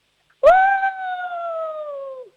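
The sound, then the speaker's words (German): A single human voice imitates a wolf's howl, one sustained tone of about two seconds that rises slightly at the start, holds, then slowly drifts down and fades out, fairly loud. “Dann hätte ich jetzt gerne, dass du mal heulst wie ein Wolf.”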